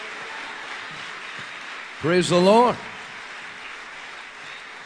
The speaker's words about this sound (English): So would you give a warm Charleston Church welcome to evangelist Jonathan Shuttlesworth, please. Give Jesus a great big hand clap in Central Maine.